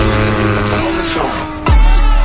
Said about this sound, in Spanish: Motores, ha llegado la hora de pisar el acelerador.